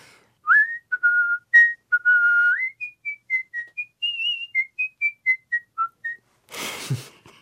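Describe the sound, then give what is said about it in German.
A clear art-whistling rendition of a theme melody, with sustained tones and quick gliding notes, ending in a brief noisy burst, with no one speaking. “Kleine Kostprobe des Kunstpfeifens.”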